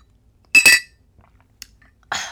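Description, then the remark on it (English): A couple of bright clinks from a small mug being handled, then a brief hiss of sipping water mixed with Miralax through a straw at the end. No one speaks. “So, for the people that aren't watching on YouTube right now, this is my sweet little mug with a straw in it. Allow me to take a sip.”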